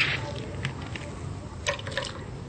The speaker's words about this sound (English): put the water into the pot. In our restaurant, we use with the filter water for wash vegetable and cooking everything. So we put half of water into the pot. we can say 4 cups of water, yes, and we put everything into the pot.